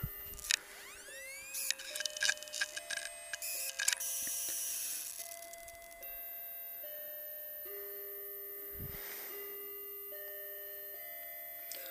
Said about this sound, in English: Don't like the chime too much on that clock. Sounds sort of artificial.